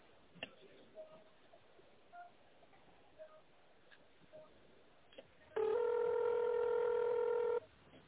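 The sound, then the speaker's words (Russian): Touch-tone keypad dialing of an employee's extension in tone mode on a company phone line: a series of short, faint beeps at irregular intervals, followed by a loud, steady, buzzy tone lasting about two seconds. No one speaks. “Пожалуйста, наберите номер сотрудника в тоновом режиме или дождитесь ответа секретаря.”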